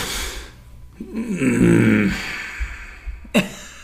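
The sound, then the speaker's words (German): A rough coughing fit: a harsh burst, then a strained, rasping throaty sound, and one more sharp cough near the end, with no talking. “Da hast du jetzt nicht mehr weitergeredet, weil es dich so nervt oder weil du einen Husten reißt?”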